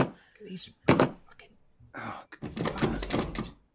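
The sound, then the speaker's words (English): A door that won't open is rattled and thumped a few times as someone tries it, producing dull knocks and clunks with short pauses between bursts. “Out of this, the door. No, why? Oh, doesn't seem to be opening.”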